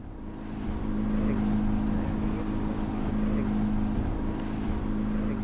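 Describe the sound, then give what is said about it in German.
An inflatable motorboat's engine drones steadily with a strong low hum, while wind and rushing water noise fill the background as the boat races over the waves back toward Ponza. “er holt uns wieder ab und wir preschen über die Wellen zurück Richtung Ponza.”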